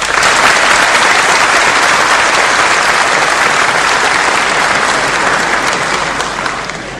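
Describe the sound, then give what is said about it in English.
A crowd claps loudly and steadily in a dense, continuous wash of applause that holds for several seconds before starting to thin and fade at the end. “I think we should give our brother a clap.”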